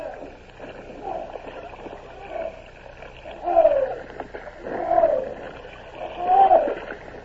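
Oars pull through river water in a steady rhythm as crews row barges and a bomb ketch, each stroke bringing a creaking groan and a swishing splash, repeating about five times.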